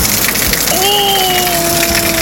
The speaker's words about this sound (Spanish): Oye, pero ahí está lloviendo fuerte, po. Oye, ahí está lloviendo fuerte.